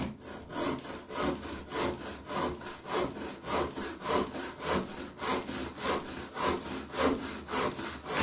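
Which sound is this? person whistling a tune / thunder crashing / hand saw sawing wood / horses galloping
hand saw sawing wood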